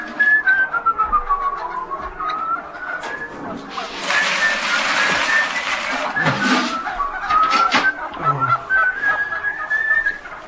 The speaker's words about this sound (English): Get them off, please. Please, I can't stand it. Hate birds, you see.